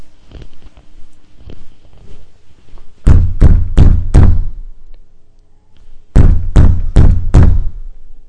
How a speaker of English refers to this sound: So he gets out of his house, and he goes to his neighbor, and he knocks on the door.